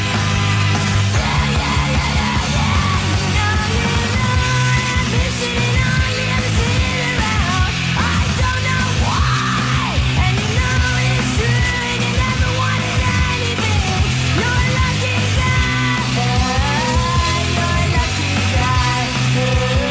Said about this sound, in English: It's a shame that muff lady has to screech like that and damage her voice. She can obviously sing properly. Why does she have to spoil it?